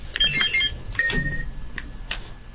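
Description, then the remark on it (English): Quiz game buzzers being tested in a buzzer check before the second round: a quick run of short, high electronic beeps, then a longer steady tone, followed by a few sharp clicks and taps. No one speaks. “So let's do a quick buzzer check and make sure everybody's buzzers are working before we start the second round.”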